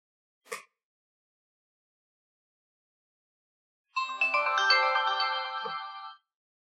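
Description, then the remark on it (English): A brief click as the round power and play button of an audiobook player is pressed and held, a few seconds of silence, then a bright electronic melodic chime of layered rising tones lasting about two seconds as the player turns on, fading out cleanly. Clear, with no voices. “I will press and hold this button now for 3 seconds until I hear a melodic chime.”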